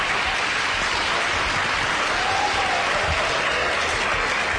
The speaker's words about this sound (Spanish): Bueno, pues un aplauso para el papá, ¿no?